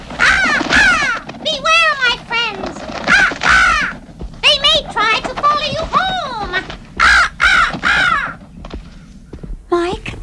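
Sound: raven cawing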